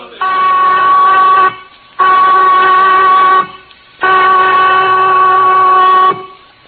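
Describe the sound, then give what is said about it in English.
A loud prison whistle signalling lights out on Christmas sounds three long, steady blasts with short gaps between them, each a rich, sustained tone that cuts off sharply, with no one speaking. “The prison whistle, Johnny, cutting Christmas out of the air like a knife.”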